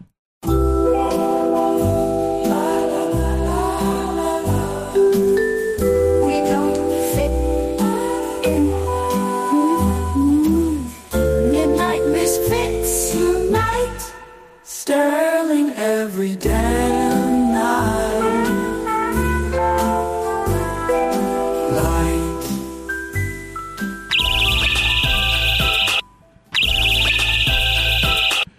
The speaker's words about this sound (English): I am playing the alarm on my bird feeder at random times during the day.